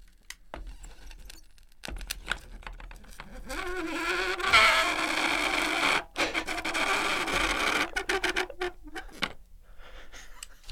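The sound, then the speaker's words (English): A burning strip of magnesium inside a block of dry ice, making the dry ice sublimate into gas much faster, gives off a loud, rasping buzz that drones steadily for several seconds, like an insect's whine, bracketed by sharp crackles and pops. “the magnesium was burning inside the dry ice, making it sublimate, turn into a gas a lot faster”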